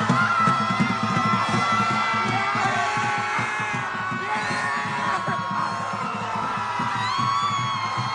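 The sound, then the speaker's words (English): A large crowd of protesters screams and yells together at the sky in a loud, sustained roar, many voices overlapping in long wails and howls that rise and fall without pause, on Scream at the Sky Day in 2017, a year after Donald Trump's election. “This was Scream at the Sky Day.”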